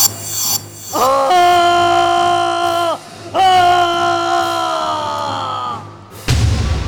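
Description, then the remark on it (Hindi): Two long, loud, shrieking howls, like a monstrous creature screaming, each holding its pitch for a couple of seconds, then a sudden heavy crashing impact as a demon falls to the ground and the earth shakes. “चीखता हुआ राक्षस धड़ाम से धरती पर गिरा। धरती हिल गई और जहां वो गिरा वहां एक विशाल छेद हो गया।”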